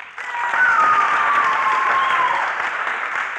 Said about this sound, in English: Now, students, I want you to signify with your applause. I want you to signify by your applause which one is the real Red Ruffensore.